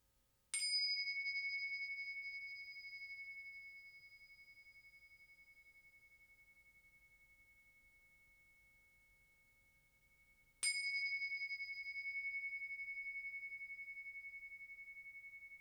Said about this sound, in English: And in a moment, I will ring the bells 3 times. When I do, you can just bring your full awareness and presence to the sound until that 3rd bell dissolves into silence.